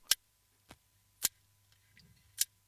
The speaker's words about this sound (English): Oh, that clicking you hear, it's the rig shark from New Zealand. It's only about 5 feet long. And scientists at the University of Auckland believe this may be the first ever recording of a shark making noise.